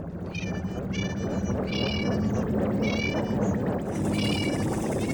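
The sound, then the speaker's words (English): Jill's space cats meow in quick succession out in space, their high, wavering cries overlapping and repeating over a steady low hum and a constant noisy background. “It's Jill and her space cats.”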